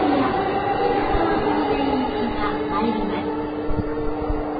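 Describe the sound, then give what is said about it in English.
A train rumbles steadily in a station, its low drone overlaid with a sustained mechanical hum and occasional soft clanks, while faint voices murmur in the background. “Okay, and now we're going to get on one more train.”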